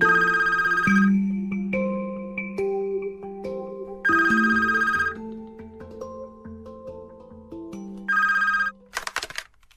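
A telephone at the parish house in Střítež rings three times at steady intervals of about four seconds, bright and fairly loud, over soft background music, followed by a short clatter at the end.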